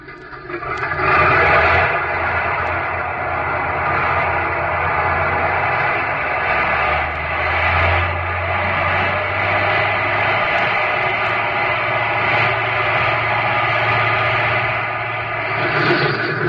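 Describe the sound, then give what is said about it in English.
A seaplane engine is gunned to shake a caught line loose, roaring loudly and revving up into a heavier, surging drone midway before settling back to a steady, rough rumble, with no voices. “I'll have another go at shaking that line loose by gunning the motor.”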